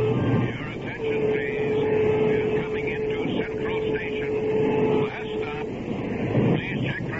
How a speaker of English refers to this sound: We're coming into Central Station. Last stop. Please check for any belongings before you leave this train.